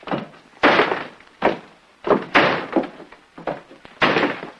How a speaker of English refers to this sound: What happened? The door blew shut. I got locked in.